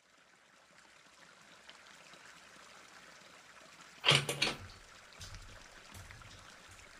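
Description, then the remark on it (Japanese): A steady, soft hiss of running shower water fills the background, broken midway by a brief louder burst of splashing, followed by a few dull low thumps. “先にシャワーを浴びてなさい。”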